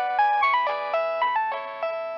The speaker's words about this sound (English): That's when his phone rang. It was unexpected.